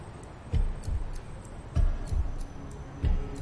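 clock ticking

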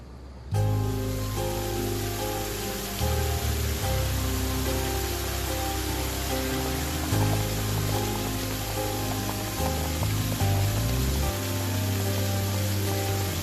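storm with rain

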